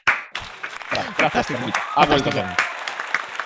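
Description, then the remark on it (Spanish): Scattered applause of sharp, uneven claps, fairly loud, mixed in with people talking over it for a few seconds. “solo puedo pedir a la producción que pongan de fondo una música épica sin derechos, no copyright, y aplaudir.”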